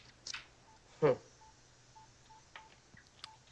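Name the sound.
telephone keypad dialing tones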